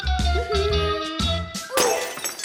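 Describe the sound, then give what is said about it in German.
Dishes crash and shatter in several loud bursts while the table is being set, with ringing ceramic tones and scattered clinking pieces in between, and no voices. “Dann wollte Kalli die Scherben wegräumen.”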